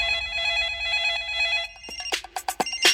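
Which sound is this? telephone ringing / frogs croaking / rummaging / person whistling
telephone ringing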